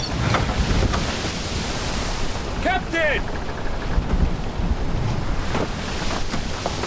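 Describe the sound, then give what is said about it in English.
Strong wind roars steadily over crashing ocean waves at sea, driving a ship toward the shore, a loud, continuous rushing that fills the whole scene, with a brief shouted voice cutting through partway. “The wind is driving us onto the shore.”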